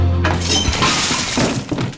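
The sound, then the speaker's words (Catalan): A toilet cistern, pulled on insistently by its broken flush chain, crashes down onto a person's head in a bathroom: a heavy crash with shattering ceramic and glass-like debris, loud, breaking apart over about two seconds with scattered clattering fragments and no voices. “Les tira amb insistència i la cisterna li cau al cap.”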